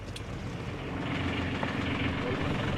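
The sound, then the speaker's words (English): A fishing boat's engine idles in the inner harbour of Mevagissey, a small fishing harbour in Cornwall, UK: a steady low rumble with a faint droning hum that rises slightly and holds throughout. “pulled his boat up to meet me in the inner harbor”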